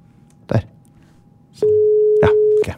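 A phone line tone: a few sharp clicks, then a steady, fairly loud electronic beep holding for about a second, like a call being dialed and starting to ring. No one speaks.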